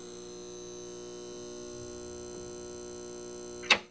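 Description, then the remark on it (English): A steady electrical hum drones evenly throughout, a constant buzzy tone with layered overtones, ending with a single sharp click near the end. “Are parts of our brains actually getting rewired when a hum or some other sound just won't quit?”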